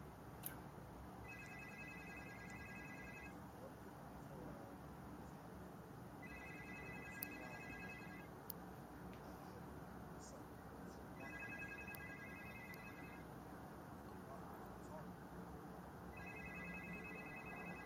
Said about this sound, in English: Hear my phone ringing, can you? I heard the phone ringing, and you went low, and I heard the phone ringing.